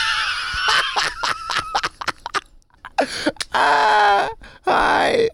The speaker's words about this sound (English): Sorry, we're yelling. It's okay. It's not a convent. I know. It's a motel. People are sleeping.